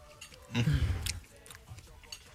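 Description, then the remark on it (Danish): A single crunchy bite of a salted pretzel stick coated in still-melted chocolate, followed by a second of chewing, with faint background murmur and no clear speech. “Det salte sammen med chokoladen, som stadigvæk er smeltet, selvom den bliver lidt kølig, det knaser lidt.”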